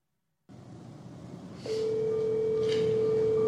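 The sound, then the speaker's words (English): A steady electronic telephone tone starts after a second of background hiss and holds without a break to the end, a clear phone-line signal as Kamala Harris calls Tim Walz to ask him to be her vice presidential running mate, with film crews on both sides of the call. “There's film crews on both sides of the phone call, and they're acting like they're having this.”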